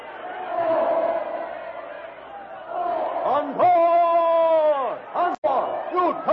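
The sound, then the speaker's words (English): A loud, panicked crowd screams and shouts continuously as elephants charge through it, many voices overlapping, with one long, piercing wail standing out above the din midway through. “Followed by the other elephants who have tossed their riders aside, the jungle titan lunges through the screaming, panic-stricken crowd straight toward the ape man.”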